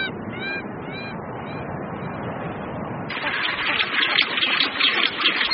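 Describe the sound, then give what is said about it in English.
A busy rockhopper penguin colony brays and squawks, harsh overlapping calls over a constant noisy wash that swells louder and brighter halfway through, with no one speaking. “At the rockhopper colony, it's time for a change of shifts.”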